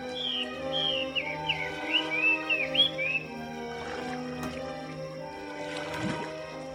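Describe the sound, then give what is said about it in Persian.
Swallows twitter in the forest around a steaming spring, a quick run of high, sweeping chirps for about three seconds, then fall away, leaving a soft, steady background drone with a few faint rustles. “می‌شد از لابلای بخار چشمه جنگل قشنگ اطرافش رو دید و صدای خوندن چلچله‌ها رو هم شنید.”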